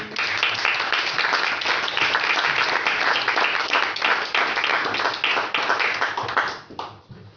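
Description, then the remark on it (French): A concert audience applauds a songwriter who is present in the hall, a dense wash of many hands clapping at an even, loud level for about six seconds before quickly tapering off into a few scattered claps. “vous allez l'applaudir encore une fois.”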